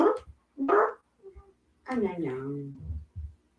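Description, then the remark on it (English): Wednesday, a pet cat, chortles in a few short, throaty bursts, then a longer warbling trill that slides downward in pitch, followed by a couple of brief grunty chirps. “But it's really cute because she chortles sometimes.”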